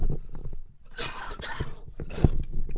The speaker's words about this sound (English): Gonna have to cough.